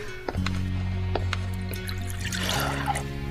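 Water pours steadily into a glass for about three seconds, a continuous gurgling stream with a low resonant hum and a splashier rush toward the end. No one speaks.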